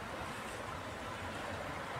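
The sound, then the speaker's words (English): Steady rain falling, a dense, even hiss spread across the whole range with no breaks or individual drops standing out, holding constant for the full two seconds with no voices. “Oh, suddenly, good rain.”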